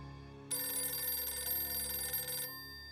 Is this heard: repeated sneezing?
no